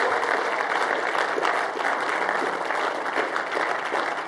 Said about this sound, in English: How about just a big round of applause just for their rest, huh?